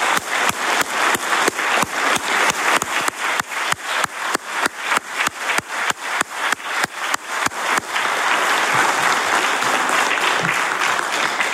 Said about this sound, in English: Congratulations. Let's extend a round of applause to these outstanding individuals.